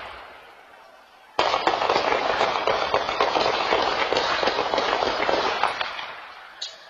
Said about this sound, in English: Someone reached out to us and had that Ring camera video. I lost count of how many gunshots are in that video. So just for our listeners' sake, this is like Ring doorbell camera video? Yes, on someone's back porch. And these are the gunshots.